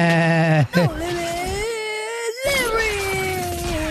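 animal, billy goat bleating

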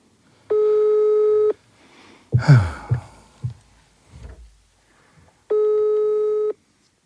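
signal or alarm, telephone ringback tone

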